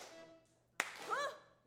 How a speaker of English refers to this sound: Steady clap.